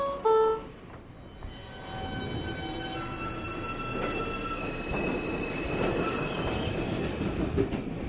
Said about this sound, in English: we posted 8 clips of these ambient sounds from the New York City subways